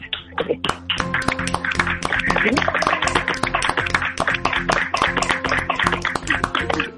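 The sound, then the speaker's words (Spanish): A small group claps together on a count of three for several seconds, a dense, irregular patter of sharp hand claps that stays steady and fairly loud, with voices calling out and talking underneath. “Joder, o sea que un abrazo a todos y aplaudimos todos, venga, a la de tres.”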